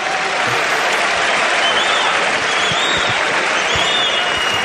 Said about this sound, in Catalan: Falla el primer tir Ante Tomic. Aplaudeix la grada de l'Olímpic. Vinga, Ante, som-hi, va!